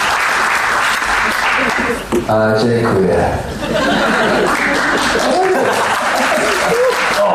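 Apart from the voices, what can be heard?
audience applause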